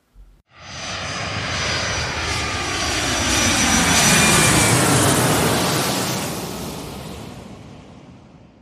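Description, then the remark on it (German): A long roll of thunder from a thunderstorm roughly over the square, about 600 metres away, rumbles in after a brief crack, swelling to a loud, broad roar around the middle and slowly fading away over several seconds, with no voices. “Also war das Gewitter jetzt quasi direkt über dem Platz.”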